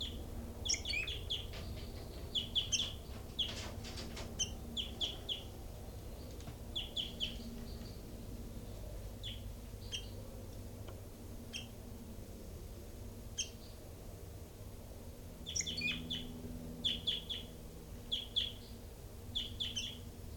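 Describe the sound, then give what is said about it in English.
Captive birds in their cells call in clusters of quick, high-pitched chirps and squeaky notes, coming in bursts with short pauses, over a steady low background hum. No one speaks. “And right now I'm at the cells of birds 3-3 and 5-9 and also 40 and 06 stem.”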